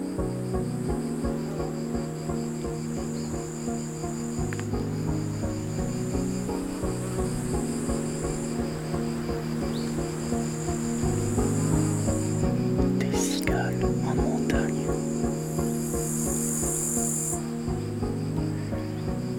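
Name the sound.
cicadas singing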